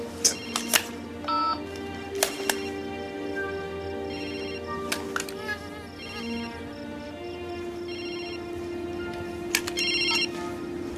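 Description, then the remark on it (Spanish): Several mobile phone ringtones chime and warble together in a steady, overlapping electronic melody as a group of people take out their phones, punctuated by sharp bright beeps, continuous throughout. “Todos sacan sus móviles.”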